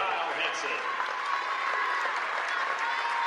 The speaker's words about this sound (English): Kyle Hansen sets down. The senior gets a round of applause.